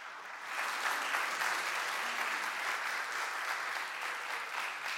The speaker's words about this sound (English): Thank you. Yes, you can go ahead and clap.